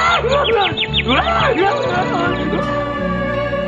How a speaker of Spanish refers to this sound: ¡Un pajarito!